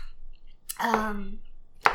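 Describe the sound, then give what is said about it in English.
Two sharp knife strikes on a cutting board as ham is chopped, spaced about a second apart, with a brief low tonal hum sounding between them. “I'm just chopping up some ham right now.”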